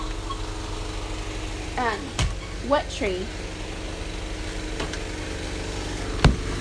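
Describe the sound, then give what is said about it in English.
A truck engine rumbles steadily as the truck comes up next to a house, a low continuous drone running the whole time while a few short spoken words come through over it. “There's a truck coming up next to our house.”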